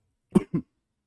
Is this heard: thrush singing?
no